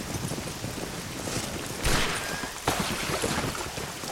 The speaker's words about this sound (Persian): نمیدونستم بارون به این شدتم هست.